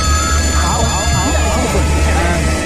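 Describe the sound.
A telephone rings with a bright, sustained electronic tone throughout, over a steady low hum, with voices murmuring faintly underneath.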